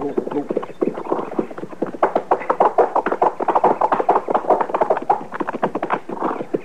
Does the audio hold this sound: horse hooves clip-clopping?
yes